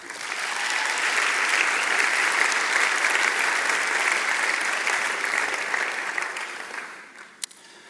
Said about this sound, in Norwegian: Vi tar og gir Siri en applaus.